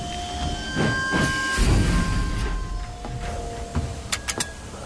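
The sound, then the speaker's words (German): A steam locomotive named Emma gives a few short, steady whistle tones over rumbling and bursts of hissing steam, then the chuffing settles as it comes to a halt, having run dry of water. “Plötzlich pfiff Emma kurz und blieb stehen.”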